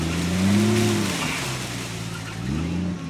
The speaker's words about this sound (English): It's harvest time for Stan Lester, a fourth-generation farmer from Winters, California, in Solano County. Lester stands in his walnut orchard, watching a huge machine shaped like a giant claw shake walnuts from the trees.